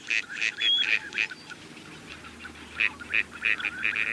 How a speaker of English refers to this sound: Dabbling ducks feed near the surface, without fully submerging like a diving duck. Many ducks are expert dabblers, including mallards, teal, and this gadwall.